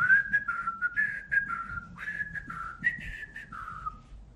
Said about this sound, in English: There was one other thing I could do. I could whistle.